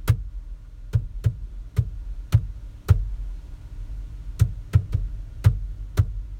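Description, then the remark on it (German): Knuckles knock sharply on a hard surface, tapping out the rhythm of Happy Birthday to You in an uneven, song-like rhythm: a run of six taps, a pause, then five more, fairly loud, with no voices. “Weil wenn ich jetzt zum Beispiel Happy Birthday to you zu dir klopfe, würde es sich vielleicht so anhören.”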